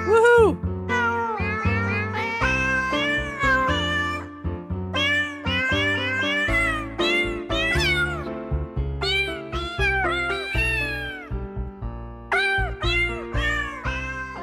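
Cat meows pitched and sequenced into a bouncy holiday-style tune, loud, with rapid melodic meows strung over steady musical backing for the whole stretch.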